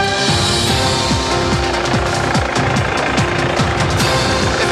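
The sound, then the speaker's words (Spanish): A Carabineros police helicopter's rotor thumps in a rapid, steady rhythm over a loud roar of engine noise, with no voices, as it comes in carrying a shot officer and sets down on a hospital helipad in the commune of Recoleta. “Ustedes están viendo cómo a esta hora viene llegando el helicóptero de Carabineros que se está posando con el funcionario baleado en la comuna de Recoleta, y en este momento el helicóptero se está posando en el helipuerto del Óscar,”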